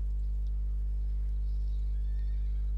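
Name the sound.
horse neighing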